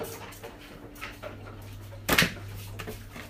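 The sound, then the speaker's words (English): A cockapoo dog whimpers softly in faint, brief high-pitched whines over a steady low hum, with a single sharp knock or thump partway through. “Stop it, you stinking cockapoo.”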